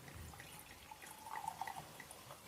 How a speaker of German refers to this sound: Und er hat einen Wahnsinnswein, der heißt Funky Punky Pinot Noir Rosé 2022. Funky Punky ist wirklich Funky Punky. Funky Punky. Geil. Ich schenke das jetzt mal hier in das Glas ein. Ups, ich hält mal so ein bisschen hoch.